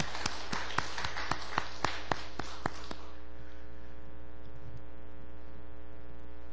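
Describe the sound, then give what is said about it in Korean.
A church audience applauds for about three seconds to give glory to God, a dense wash of clapping with sharp, evenly spaced claps standing out, then it stops abruptly, leaving only a steady low hum. “박수로 우리 치아합시다.”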